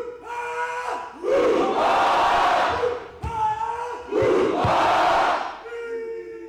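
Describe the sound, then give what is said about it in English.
A crowd of family, friends and spectators at the games roars and cheers in two loud, surging waves, each building from a single shouted call into a broad swell of many voices yelling together before fading. “Not only did he compete, but he was also in charge of getting the crowd of family, friends, and spectators excited.”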